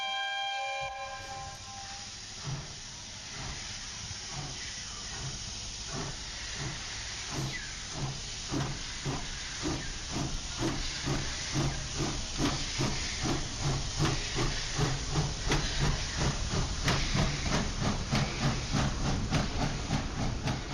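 A steam locomotive of the Arganda train in the Community of Madrid hisses steadily, opening with a short tonal whistle, then chuffs in a quickening rhythmic beat that grows louder, with no voices.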